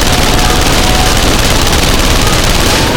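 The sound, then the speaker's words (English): A Copperhead submachine gun fires in a loud, sustained rapid stream, the shots blurring into a harsh, crackling roar that barely pauses across the whole few seconds, with no voices. “Grant was at his side, his own copperhead roaring sudden death.”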